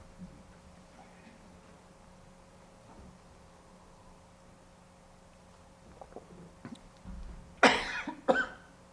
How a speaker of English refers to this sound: All right, excuse me for that. Sorry, the cough here.